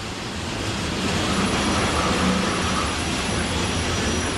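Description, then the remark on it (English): A wind-up toy train runs along its track with a steady, unbroken whirring rumble that holds an even loudness for several seconds. No voices are heard. “Those wind-up trains go pretty fast, don't they?”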